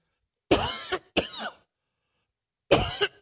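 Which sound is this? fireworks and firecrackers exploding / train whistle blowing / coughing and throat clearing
coughing and throat clearing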